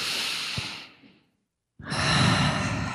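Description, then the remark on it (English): A long, deep breath drawn in, a brief pause of silence, then a full, airy exhale, clear with no talking. “So let's, right now, everybody take a breath with me.”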